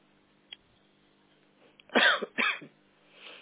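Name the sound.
coughing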